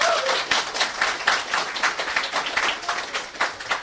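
A crowd bursts into steady applause, dense overlapping claps filling the space at a fairly loud, even level for several seconds, with no voices breaking through.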